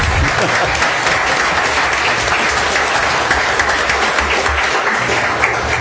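The audience at a city council meeting applauds for all of the presentations, steadily for several seconds, a dense, even wash of many hands clapping at a loud, constant level with no voices standing out.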